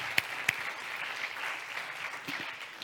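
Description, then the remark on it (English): A crowd applauds steadily on Youth Sunday for everybody who helped out with VBS, a dense wash of clapping hands with a couple of sharp, louder claps standing out near the start, no voices heard. “I know we did this earlier, but just give another round of applause for everybody who helped out with VBS.”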